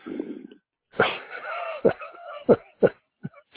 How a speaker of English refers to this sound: you're breathing hard.